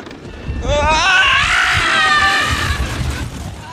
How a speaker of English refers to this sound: It is so amazing because it just, you know, this screech, you know, from this, you know, serious newscaster kind of guy or whatever.